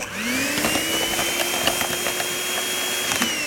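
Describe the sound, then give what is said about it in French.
A small electric motor spins up and whirs steadily with a high, constant whine, fairly loud, with faint clicks and rattles as an electric whisk churns black milk tea after milk powder is added. “Et on ajoute le poudre de lait. On va le fouetter.”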